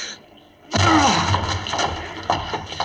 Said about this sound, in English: The door's locked. We can't get in. Break it down, then.